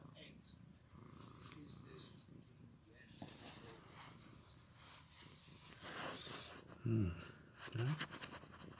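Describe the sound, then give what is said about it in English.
A cat named Peanut purrs steadily, a continuous low rumble throughout, with soft murmuring voices and two brief louder low vocal bursts near the end. “Oh, you're lovely. You're a lovely cat, Peanut.”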